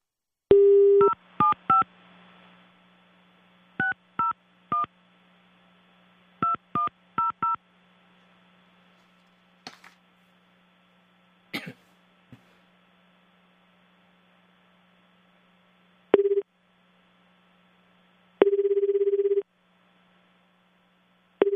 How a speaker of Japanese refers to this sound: それでは電話をつながしていただきます。